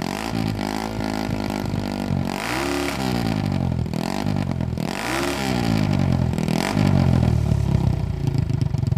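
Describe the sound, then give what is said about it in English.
An Italian-made single-cylinder motorcycle engine, from a line made between 1961 and 1978, runs loud, revving up in several repeated bursts over a steady, throbbing idle, with no one talking. “So if you go to our singles, there's several in here, but one of them is, believe it or not, we made from 1961 until 1978, we were partnered with a company in Italy, and they made some Italian-made singles. So we'll take a listen to one of these.”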